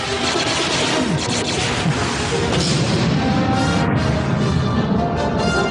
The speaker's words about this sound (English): He crashes into the bridge.